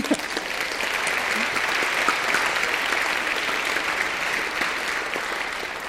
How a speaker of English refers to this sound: yes, let's clap.